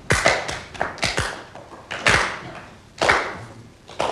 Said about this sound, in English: The purposefully slow pace of their clapping was a rude sign of their disapproval.